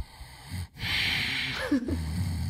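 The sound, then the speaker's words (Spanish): A voice imitates someone at the cinema who snored while awake: a rough, raspy inhaled snort followed by a wheezy, breathy exhale, one snore cycle with no other speech. “Solo, pues como que roncaba, pero no despierto.”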